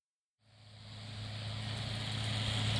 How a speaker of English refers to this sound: The powerful diesel engine is good at pulling heavy machines.